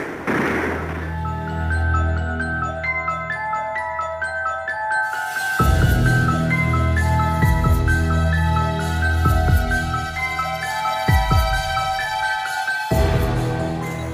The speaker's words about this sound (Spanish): ¡Artillería con ellos, capitán! ¡Cañoneen a esos hijos del demonio! ¿Mando a emplazar la pieza, general? ¡Cuanto antes! No podemos permitirles que se crean dueños de la situación. ¡Barran sus posiciones a puro cañonazo! ¡A puro cañonazo!